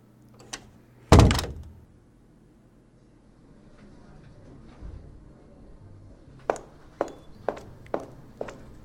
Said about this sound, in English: Yes, you can leave. Shut the door on your way out.